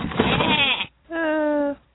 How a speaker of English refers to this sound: Wait, is that a goat? Goats are a great gift, but maybe not for her.